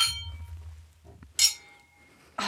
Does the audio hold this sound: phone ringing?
no